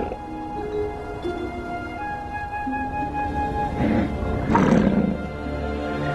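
A mother muskox charges to chase an Arctic fox away from her newborn calf, giving a couple of loud, rough snorting grunts midway, over a steady background of sustained musical tones; the fox was trying to scavenge the placenta.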